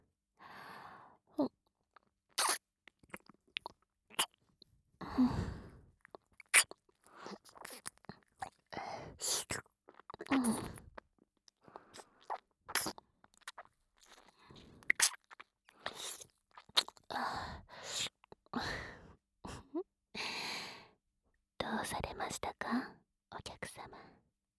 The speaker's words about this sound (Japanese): このお耳への水音マッサージは、お客様を癒す目的でしているのですが